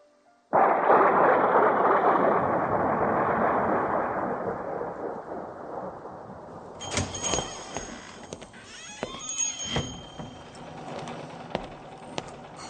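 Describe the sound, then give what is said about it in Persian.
A sudden loud crack of thunder rolls out in a long rumbling wash that slowly fades, then heavy rain carries on with scattered sharp patters and clatters. “علی آقا، الان که بارونه بذار بند بیاد بعد پارچه ها رو ببر”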